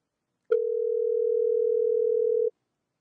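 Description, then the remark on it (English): A steady, unbroken telephone dial tone sounds clearly for about two seconds while a phone call is being placed, starting and stopping abruptly, with no talking over it. “We'll keep the suspense to see if the phone works.”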